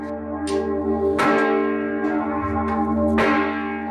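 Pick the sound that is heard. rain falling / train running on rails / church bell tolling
church bell tolling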